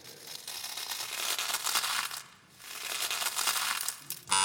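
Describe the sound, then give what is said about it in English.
Frosties cereal being crunched: dry, crackly, crisp crunching in two long stretches separated by a brief lull, fairly loud and steady, with no voices. “They're actually frosties.”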